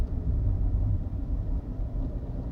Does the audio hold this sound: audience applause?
no